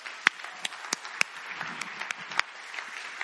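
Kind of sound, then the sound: crowd, audience applause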